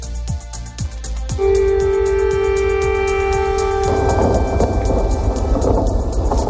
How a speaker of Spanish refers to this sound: Es el sonido de la sirena y del posterior bombardeo que se ha registrado, uno de ellos, esta noche en la capital, en Kiev.